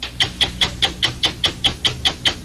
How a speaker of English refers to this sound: That clock you hear ticking,